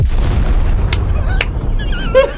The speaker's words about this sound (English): They're gonna blow it up. I'll blow it up because I want to use my explosion sound.